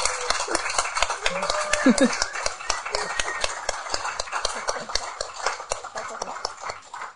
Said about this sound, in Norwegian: Kan jeg også få en ja! Applaus?